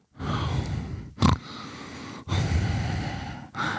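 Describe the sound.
Loud, heavy breathing blasting straight into a microphone held inside the mouth during commentating: long, rough, windy breaths with a few brief pauses between them and a sharper puff near the start. No one speaks.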